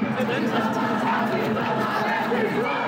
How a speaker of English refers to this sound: This crowd is getting bigger from what I can tell. Maybe 200-300 now. They don't show any signs of losing energy here. Got people banging on drums. Got people banging on pots and pans.